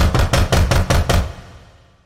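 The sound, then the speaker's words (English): Loud, rapid knocking by a woman's hand on a front door, about seven sharp raps in quick even succession, followed by a brief fading resonance into quiet. “As I tried to stifle a scream, she raised a hand and knocked loudly on my front door.”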